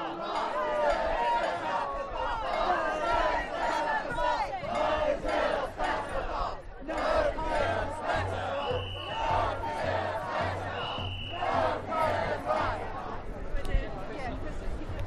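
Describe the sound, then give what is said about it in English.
A protest crowd sitting in the road over plans to move a library chants loudly in steady rhythmic bursts, many voices shouting together over a constant low rumble, with a few brief higher tones cutting through. “People are sitting in the road.”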